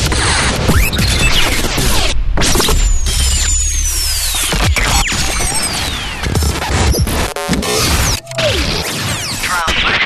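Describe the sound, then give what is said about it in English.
A rapid montage of Climax Imaging radio sweeper effects: rising and falling whooshes, pitched laser-like swoops, sharp hits and glitchy stutters, loud and dense, with heavy low-end thumps and brief abrupt cutoffs. “Sounds, stagers, sweeps.”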